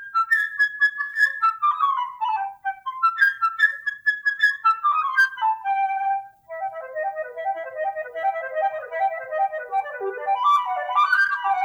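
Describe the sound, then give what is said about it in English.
A solo flute, representing the bird character in an orchestral tale, plays a lively, high bird-like melody of quick runs, darting leaps and fluttering trills, steady in loudness and alone with no voices. “The bird by a flute.”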